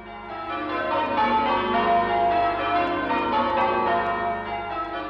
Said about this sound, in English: The bells rang out from the council hall in the Lateran Palace.